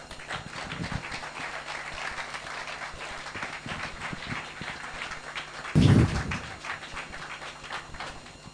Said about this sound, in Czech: Takže pojďme jim zatleskat.